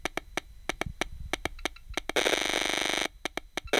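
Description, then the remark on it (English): A meter's low-battery warning sounds as a buzzy, harsh electronic tone lasting about a second, set among a steady run of sharp, rapid tapping clicks before and after. “Oh, and that sorry sound, doo-doo-doo, that is when it's running out of battery.”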